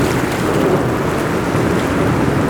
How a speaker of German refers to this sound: Plötzlich bemerkten die drei, wie etwas weiter draußen Blasen aus dem Wasser emporstiegen.